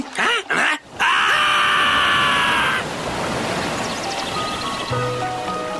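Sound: rushing stream water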